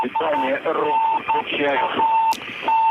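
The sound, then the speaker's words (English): A steady Morse code beacon from a Soyuz rocket in trouble after a booster failure beeps out the letters AN over and over in short and long tones, clear and prominent over a narrow, radio-like channel, while a voice talks continuously underneath. “You can hear the Morse code beacon there indicating that the Soyuz rocket is in trouble and coming down.”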